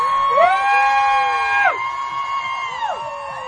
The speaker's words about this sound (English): I want to hear everybody yell, like, just let it all out. Whatever angst, anything that you're upset with the government, let it out. Go!